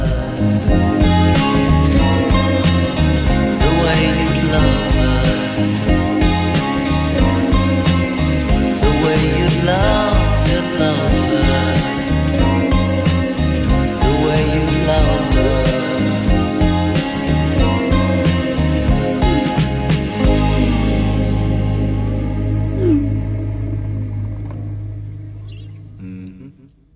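An indie pop song plays loudly with a steady bass-driven rhythm and layered melodic instruments, then thins out and fades away over the last few seconds.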